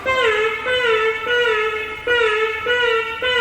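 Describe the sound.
An electronic instrument imitates a little bird with a bright, reedy warbling tone that swoops and restarts every half second or so. It plays loud, with no talking.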